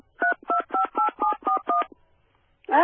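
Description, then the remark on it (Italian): Seven evenly spaced touch-tone keypad beeps ring out in a quick, steady rhythm, each a bright two-note tone, followed by a short pause before a voice begins speaking. “Se non si ha ancora la soluzione, digitare Jolly.”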